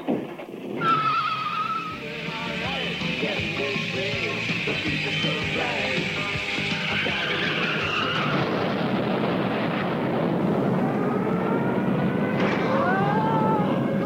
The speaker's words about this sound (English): Sorry about that unfortunate little nuclear incident, but they've installed a new switch on the board here at WREK Atlanta